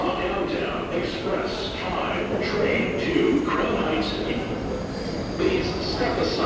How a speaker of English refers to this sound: So now we are descending into the subway.